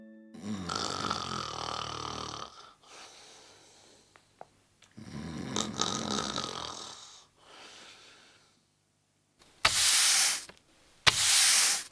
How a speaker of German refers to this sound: Ich weiß nicht, was es ist, aber es hat sich nicht menschlich angehört. Hast du eine Idee? Nee. Das war ein Besen, der gefegt hat.